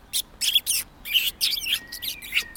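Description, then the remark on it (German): Birds chirp in quick bursts of high, bright tweets, several overlapping calls, with a thin sustained whistle running through the second half and no voices. “Ich unterhalte mich gerne mit den Vögeln.”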